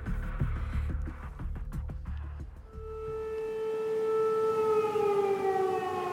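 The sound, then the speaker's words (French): Air raid sirens wail across the devastated streets of a capital city, a long rising and falling tone with harmonics, preceded by rhythmic rumbling and clatter before the sustained siren takes over, loud and steady. “Les sirènes n'en finissent plus de retentir dans les rues dévastées de la capitale”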